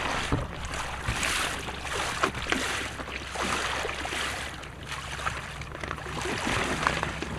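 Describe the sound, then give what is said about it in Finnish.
Water sloshes and churns steadily as about 100 muddy mussels are washed in water in a tub drilled with many holes, used as a washing machine, with faint clattering of shells over a constant low rumble like an engine or wind. “Niin, ja tässä meillä on tämmöinen saavi, johon on porattu hurja määrä reikiä, ja tämä on meidän pesukone, jossa ne sitten tuolla vedessä huudat.”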